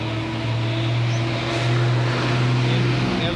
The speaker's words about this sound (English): Savvy motor buses. These buses are also so old. Old and creating sound so much.